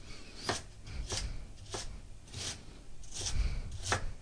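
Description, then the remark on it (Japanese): A knife coarsely minces thin strips of lotus root, laid lengthwise and cut from the end, on a cutting board for a Japanese mixed rice dish, in a steady, unhurried rhythm, about seven crisp thuds roughly half a second apart, with no one talking. “そしたら今細切りになったレンコンを横長に置いて端から粗みじん切りにしていきます。”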